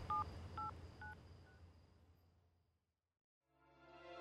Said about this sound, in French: saisit le téléphone de l'entreprise et appelle son fils.